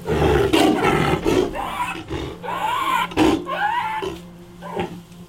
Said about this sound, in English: He has gained some weight, started walking since arriving. The bloody welts that covered his body when he arrived are gone. But he still suffers from gastroenteritis, and his roar sounds like a chain smoker's cough.